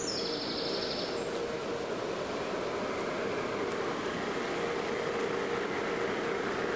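A helicopter's engine and rotor noise forms a steady, dense whooshing roar with a low humming tone underneath, holding constant throughout with no talking.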